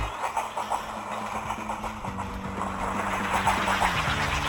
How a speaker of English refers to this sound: I quite like the little noise of the train symbolising the end of the journey there.